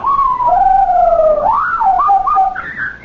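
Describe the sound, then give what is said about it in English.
A parrot named Napoleon, under its cover, gives a loud, wavering whistle that slides down in pitch, then breaks into short rising and falling chirps ending on a higher note, with no talking. “I never heard a parrot make a sound like that before.”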